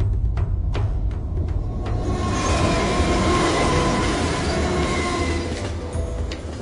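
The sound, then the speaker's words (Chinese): A train rumbles steadily past on the railway through Edinburgh that divides the Old Town and New Town, a deep continuous roar with rhythmic clacks early on and faint metallic squeals, loud throughout before easing slightly at the end. “其他的城市呢通常都有一条河流，这座城具有一条铁路，轰鸣而过的列车将其化成泾渭分明的老城和新城。”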